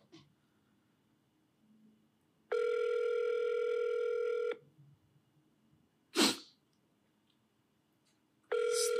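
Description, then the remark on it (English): A phone ringback tone from an outgoing call purrs steadily for about two seconds, pauses, then starts again; a brief, sharp noise burst falls in the gap. The tone is clear, with no talking. “There we go. It's ringing. Can you guys hear the ring?”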